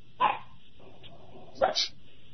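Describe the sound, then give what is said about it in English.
Two sharp dog barks ring out about a second and a half apart, loud, over a faint background hiss with no talking. “I think that's a bark.”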